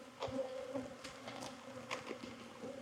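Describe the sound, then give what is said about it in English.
Honeybees buzz steadily around an open hive while a beekeeper inspects the brood frames, a dense drone with individual bees whining past now and then. No one speaks. “A couple bees scratches stinging me underneath my watch.”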